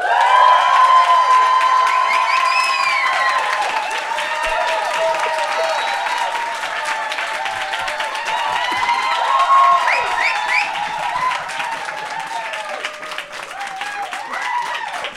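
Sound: audience applause and cheering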